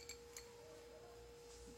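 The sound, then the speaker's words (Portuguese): Two quick, light clinks of a small glass yogurt-drink bottle sound close together near the start, then only a faint steady hum remains. The clinks are soft and brief, with no one talking. “É de vidro mesmo.”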